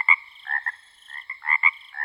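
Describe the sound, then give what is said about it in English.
A mockingbird imitates a frog's croak: a quick series of raspy, nasal croaking calls repeating in uneven bursts, clear with no voices. “Their nighttime medley might include the songs of blackbirds, cardinals, house wrens, hawks, and even the sound of frogs.”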